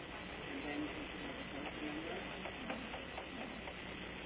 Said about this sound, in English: The sound of a keyboard being tapped.